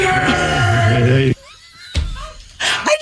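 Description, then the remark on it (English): Marshawn Lynch lets out a loud, sustained yell lasting over a second after popping into a press conference, followed by a sharp thump and brief murmuring, then another shout near the end. “Yep, that was Marshawn Lynch that just popped into the press conference and just decided to yell.”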